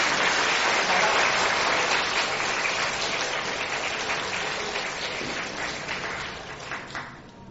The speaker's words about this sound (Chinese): 啊，我哋俾掌声过嚟嘅，多谢佢。